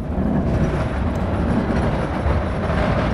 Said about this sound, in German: Montagmorgen in Berlin-Mitte. Autoschlangen im Berufsverkehr. Menschen hasten in die U-Bahn. Eine alte Straßenbahn scheppert vorbei.